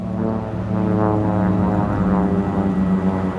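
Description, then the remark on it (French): An Australian rescue services propeller aircraft passes overhead, its engine drone loud and continuous with a rich harmonic buzz that holds throughout, no voices present. “Le lendemain, nouveau passage de l'avion des secours australien.”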